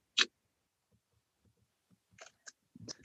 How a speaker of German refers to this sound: machst du noch mal ein Foto von uns allen? Das mache ich klar.